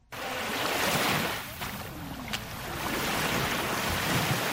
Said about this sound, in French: Des vagues matinales embrassent la plage du lac Tanganyika à Kajaga, dans la commune de Mutimbuzi, en province de Bujumbura rural.